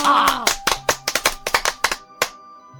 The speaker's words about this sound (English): Thank you. Finally, I get some applause on my own.